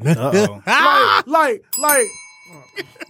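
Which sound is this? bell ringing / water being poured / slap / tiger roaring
bell ringing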